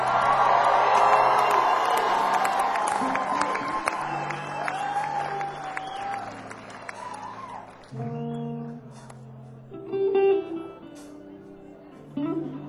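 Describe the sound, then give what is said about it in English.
Loud audience applause and cheering for a guitarist from Nashville as he is introduced, a dense wash of clapping with whoops that gradually fades, as sustained low organ-like tones and a few plucked notes play underneath. “And finally, also from Nashville on guitar, everybody give a big round of applause”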